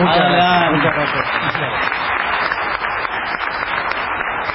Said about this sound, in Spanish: Vamos a saludarlo con un aplauso.